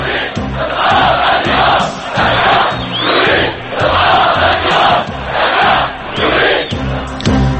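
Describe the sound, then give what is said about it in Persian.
A large crowd of protesters at a funeral in Syria for those killed on Friday chants and shouts demands for regime change in unison, loud rhythmic bursts of slogans repeating roughly every second and a half, with voices swelling and dipping together throughout. “مراسم تشییع جنازه کشته شدگان روز جمعه در سوریه باز هم تبدیل به روز خونین دیگری شد و تظاهر کنندگان فریاد می زدند که خواستار تغییر رژیم هستند.”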